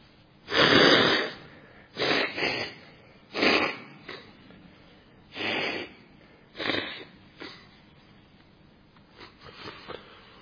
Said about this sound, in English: that's my anapanasati, breathing in, breathing out, let go.